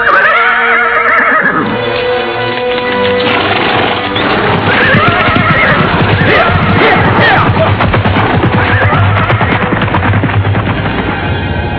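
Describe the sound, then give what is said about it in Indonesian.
Horses whinny loudly at the start as riders hurriedly spur them on, then a dense, continuous rush of galloping hooves and clattering fills the rest, busy with no speech. “Buru-buru mereka menggebrak kuda untuk melihat sendiri apa yang sedang terjadi.”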